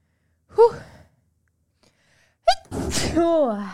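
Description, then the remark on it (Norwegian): A single loud sneeze: a short voiced intake of breath, a brief pause, then a sharp explosive burst trailing off into a breathy, voiced exhale. No speech. “Nå skal jeg bare nyse litt.”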